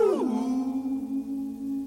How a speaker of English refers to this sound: That sounds like a rabbit dog.